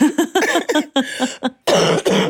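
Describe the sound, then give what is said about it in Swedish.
A series of loud coughs from a person who is ill: several short throaty bursts in quick succession, a brief pause, then two harsher, rougher coughs to finish. No talking. “Ja, den arga, men fortfarande hostiga.”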